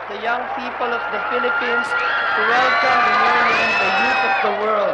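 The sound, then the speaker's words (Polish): A large crowd, mostly young people, cheers and shouts continuously as Pope John Paul II appears at the window of the nunciature in Manila, Philippines, around 7:30 pm. A dense wash of many voices with rising whoops and calls, loud and sustained throughout. “Jan Paweł II ukazał się w oknie nuncjatury, pozdrawiając zgromadzone tłumy, w większości młodzież.”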